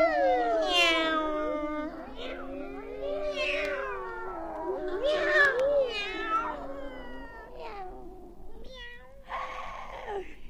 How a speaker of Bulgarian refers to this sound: Колко много котки се събраха, Боже мой! Толкова много котки!